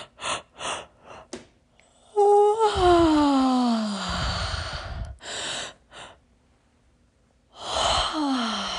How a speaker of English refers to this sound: And even hearing me try to yawn is probably going to help you do it.